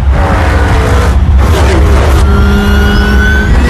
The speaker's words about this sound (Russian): Наскаровский трек. Машины проносятся, тачки.